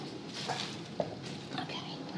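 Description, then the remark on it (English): Wet chewing and snuffling of a pet eating dried leftover bits from a metal or plastic dish, with a couple of sharp clinks against the bowl amid steady, busy munching. “Okay, now when he's finished with that dish, those dishes, all that remains for me to do is to take them outside.”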